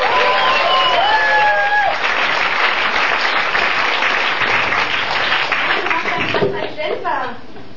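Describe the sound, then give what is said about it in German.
Loud, steady applause from an audience for the first dancers, with dense clapping and cheering, some whistles rising above it early on, then the clapping thins out toward the end. “Applaus für unsere ersten Tänzer.”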